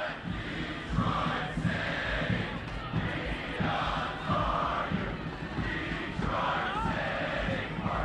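A stadium crowd of soccer fans cheers and chants loudly and continuously, a dense wall of voices with rising shouts and a few standout yells near the front.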